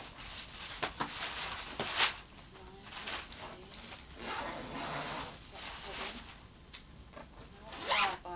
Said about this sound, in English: Right, that's got to go on the top then. If you unzip it.